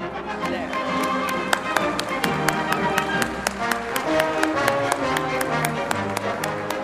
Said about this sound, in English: Maybe we should just take one more round of applause for extraordinary people who are here with us tonight.